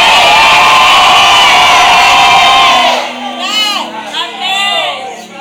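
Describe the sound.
A large audience shouts "amen" loudly in unison for about three seconds, a dense roar of many voices, then it thins into a few scattered individual voices calling out with rising and falling shouts.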